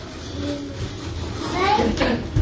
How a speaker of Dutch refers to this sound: Dat piept zo, de kar. Piept op de kar.